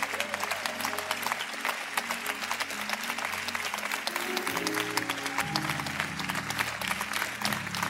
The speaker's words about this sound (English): everyone who is full-time staff or volunteers at this church, I want you to stand to your feet so that we can give you a hand clap. I don't think we've done this in the two-year history of the church, but the hard work that's done.